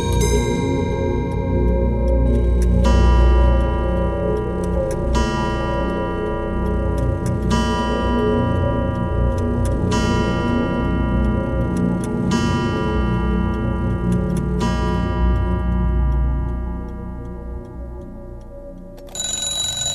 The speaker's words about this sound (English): We're in a shop called Timepiece Antiques. It's the only clock shop in Dublin City. And here we conduct the restoration of pre-20th century clocks of all shapes, designs and origins.